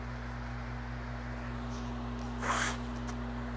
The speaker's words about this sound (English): Hold on, I have to blow my nose.